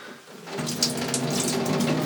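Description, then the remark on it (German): Water is poured in a steady, continuous stream into a cheap disposable diaper as a second liter is tested, a splashy gurgle that builds slightly after a soft start and runs without pause, with no voices. “Ich kann ja mal versuchen, die Windel auszubringen. Und dann weiter zu schütten.”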